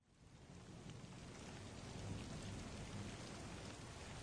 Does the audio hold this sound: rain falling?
yes